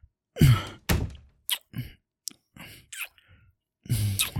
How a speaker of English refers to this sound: Hold on, let me close the door.